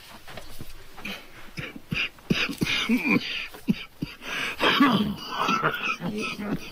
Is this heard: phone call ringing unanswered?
no